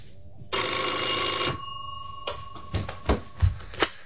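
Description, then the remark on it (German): A single loud burst of an old-fashioned telephone bell rings for about a second, a phone on an old-fashioned nightstand with an awaited incoming call, followed by a few quiet handling clunks and knocks. “Dann wieder starrte er voller Ungeduld den Telefonapparat auf dem altmodischen Nachtschränkchen an.”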